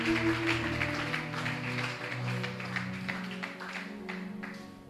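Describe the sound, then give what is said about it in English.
An audience claps their hands for the Lord in a steady, dense wash of applause that lasts throughout, with sustained keyboard or organ tones humming underneath. “Clap your 2 hands for the Lord.”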